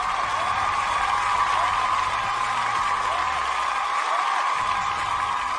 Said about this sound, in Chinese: 我们也希望今天的四位选手能够有一个非常非常好的、非常非常优异的成绩，再次掌声 送 给你们。